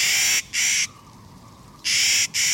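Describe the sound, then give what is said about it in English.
Harsh, grating Clark's Nutcracker calls, four loud raspy notes delivered in two quick pairs with a short pause between, alone with no voices. “Clark's Nutcracker, named for the famous Western explorer William Clark, is one of nature's indispensable tree planters.”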